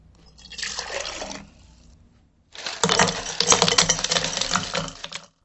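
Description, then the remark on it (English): Water pours steadily into a cup for about two seconds, then after a short pause a louder, rattling clatter of ice cubes tumbles in for nearly three seconds. No voices. “That time, you heard me pour a cup of liquid water, then a cup of ice.”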